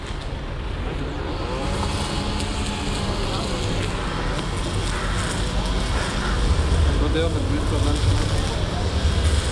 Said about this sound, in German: Jetzt hören wir noch den Bass der Kornhausbrücke. Ich glaube, es fährt ein Tram drüber.